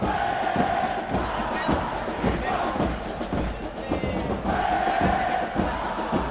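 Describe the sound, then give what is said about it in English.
A large soccer stadium crowd at Estadio Caliente in Tijuana, Mexico, on a Tijuana Xolos game day, chants and cheers in a loud, continuous roar, supporters in red and black rallying the crowd, voices rising in rhythmic waves with occasional thumps, sustained throughout. “One group of supporters, known as the Massacre, rallies the crowds.”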